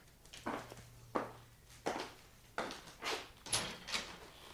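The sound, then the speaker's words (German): A soft knock at an office anteroom door on a dark, foggy day, then the door being opened, with a series of soft, evenly spaced thuds and rattles over a few seconds and a faint low hum underneath; no one speaks. “Ich saß in meinem Büro, schaute in die nicht vorhandene Gegend, als es plötzlich leise an meiner Vorzimmertür klopfte.”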